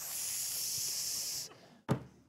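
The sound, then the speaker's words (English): A steady, airy hiss like a serpent's runs for about a second and a half, then cuts off; a moment later comes a single sharp, brief burst of noise. No one speaks. “Hiss? That sounds like a serpent.”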